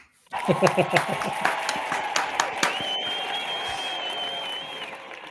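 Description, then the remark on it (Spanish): A burst of applause for a guest who says they earn more than 100,000 euros net a year: dense, steady clapping that starts abruptly and holds fairly loud for about five seconds, with a few sharper claps and a sustained high whistle-like tone partway through. “Pues esto hay que aplaudir.”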